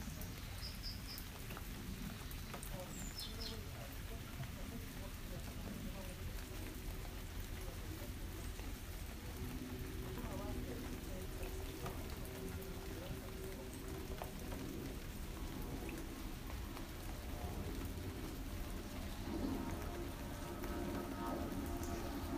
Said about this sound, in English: I actually love rain, especially in the summer. We've had too little of it, so this is some well-deserved rain. We've had a bit more in the last 2 weeks, but we need this rain.